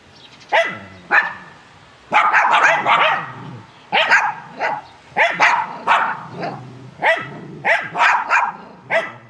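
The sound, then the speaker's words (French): A dog barks repeatedly and loudly, a dozen or so sharp barks in uneven bursts, some running together, with no voices present. “Ce que je reproche fondamentalement aux chiens, c'est d'aboyer.”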